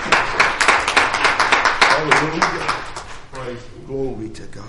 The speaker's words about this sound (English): One more hand clap of praise for the Lord.